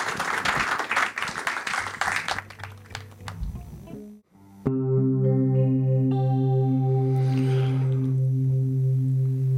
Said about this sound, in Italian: Potete applaudire, è consentito. Grazie.